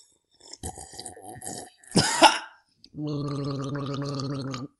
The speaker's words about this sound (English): and sometimes we just pause in the intro and take a drink of water. Ooh, let's do that now.